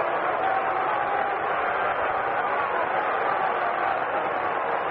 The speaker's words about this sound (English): It brings up Bobby Mercer. Listen to the crowd. Listen to it.